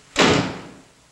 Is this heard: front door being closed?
yes